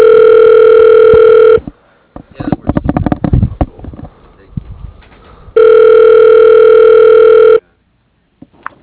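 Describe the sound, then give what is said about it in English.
A telephone ringback tone on a call, after a voicemail beep, purrs twice over the line, each steady burst lasting about two seconds, with a pause of soft clicks and rustling between them. “The beep, like, voicemail, and then it sent me to ringing.”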